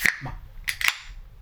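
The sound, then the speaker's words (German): A bottle of radler being opened: a sharp metallic snap, then two more quick clicks with a brief bright ring, fairly loud with no voices. “Soll ich mal einfach den Versuch unternehmen, das zu öffnen?”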